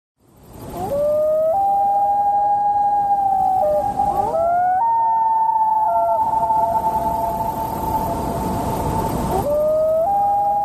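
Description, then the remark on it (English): Two loons wail back and forth in long, sustained, rising and falling cries that overlap and echo, carrying clearly over a quiet outdoor backdrop with no one speaking. “Okay, if you said a pair of loons calling to each other, you win the prize.”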